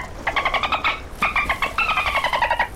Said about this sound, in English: What do I spy? Dolphins!